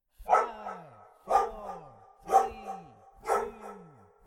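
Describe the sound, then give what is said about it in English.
Four loud dog barks land in a steady rhythm about a second apart, part of Auld Lang Syne sung in dog barks. Each has a sharp onset and a drawn-out, downward-sliding tonal tail, and there is no talking. “Auld Lang Syne by Robert Burns and Traditional Scotch Melody, sung in Scots and dog barks.”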